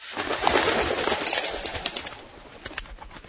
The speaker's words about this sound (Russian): Вдруг взлетела дружно стая куропаток из-под ног.